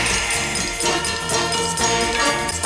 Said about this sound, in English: Back from his recent up and representing the flower people, Quasimodo on bells.